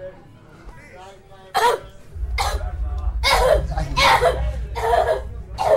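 human body sound, man coughing

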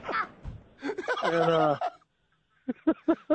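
bird, turkey gobbling

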